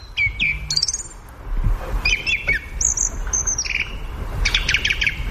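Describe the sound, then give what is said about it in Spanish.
A song thrush sings alone against the silence of a forest, a series of clear, varied whistled phrases and sharp repeated notes delivered in short bursts, over a quiet low background hum. “El primer indicio potente es el canto del zorzal común contra el silencio del bosque.”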